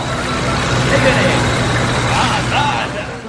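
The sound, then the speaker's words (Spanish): The heavy engine of a Serbian VIU-55 Munja construction tank, a Cold War relic converted from a T-55M2 battle tank, rumbles steadily as it is brought in, a deep continuous drone with some higher mechanical whine, as voices talk over it. “Y el Señor os dice, estad ojo a visor para este VIU-55 Munja, un tanque de construcción, serbio, reliquia de la Guerra Fría y perfectamente operativo a día de hoy.”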